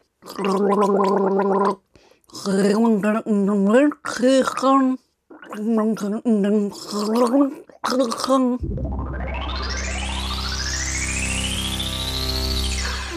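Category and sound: human body sound, gargling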